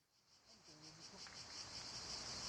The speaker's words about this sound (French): Ah, vous allez reconnaître, là. C'est les cigales.